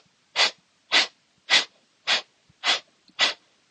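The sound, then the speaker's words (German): Six short, forceful breaths during a guided breathing exercise, in quick, steady succession, each a breathy whoosh about half a second apart, fairly loud, with no talking. “Dann atme einmal tief ein und wieder aus. Wir atmen gemeinsam ein und dann atme einmal aus.”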